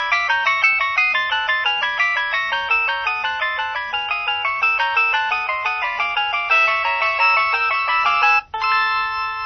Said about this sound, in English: And we're now in the gallery of polyphonic ringtones.